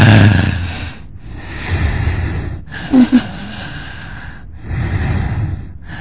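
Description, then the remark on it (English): A voice imitates a dying person's three final breaths: a series of long, raspy, labored exhalations separated by brief silent pauses, fairly loud, with no words spoken. “Very often he disappears, he goes with three last breathing.”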